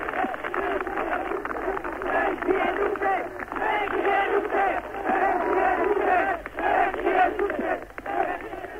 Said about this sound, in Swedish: Länge lever Dubček, skriker folket här.